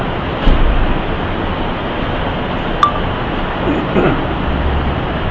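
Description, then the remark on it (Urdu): Wall-mounted fans run with a steady, broad whooshing hum that stays level throughout, with a few faint clicks and clinks over the constant airflow noise. “دیوار والے جو پنکھے ہیں ان کا شور بہت ہوتا ہے، اگر آپ برداشت کر سکیں تو ان کو کچھ دیر کے لیے بند کر دیتے ہیں.”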